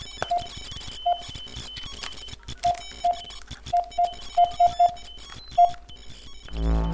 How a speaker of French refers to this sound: téléphone, je vais faire un faux numéro.